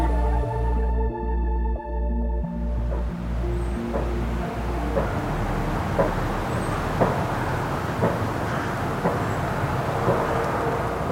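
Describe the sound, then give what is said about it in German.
Wind turbines turning in Klicksbühl, a village of about 1000 people with very many turbines: a steady low rumbling whoosh with soft rhythmic thumps roughly once a second, following a droning engine hum that fades out during the first few seconds. “Hörst du das Geräusch? Also klingt nach Windrädern.”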